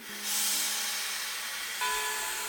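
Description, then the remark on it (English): Loud, steady steam hissing from a westbound train, continuous, with faint low tonal hums running underneath and a fresh surge of hiss near the end. “boarded a westbound train that would take her over the recently completed transcontinental rail lines to the west coast.”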